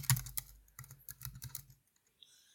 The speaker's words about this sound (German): Sag mal irgendwas in der Zeit, damit ich hier tippen kann und den Leuten nicht langweilig wird. Ach, ihr hört das Tippen und Rauschen der Uhr hier vielleicht von mir. Das ist so eine Zahnraduhr. Das ist eigentlich voll cool.